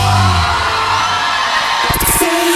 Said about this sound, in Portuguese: Quem bebe um pingão aí dá um grito.